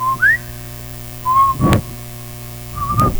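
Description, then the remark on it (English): A few short whistled notes, one sliding upward, come in broken bursts separated by pauses, with breathy puffs cutting in and a low steady hum underneath throughout. “Do you ever try to laugh and whistle?”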